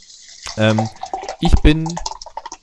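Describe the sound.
Water is poured into a glass, a steady splashing trickle, while a voice makes short sounds over it.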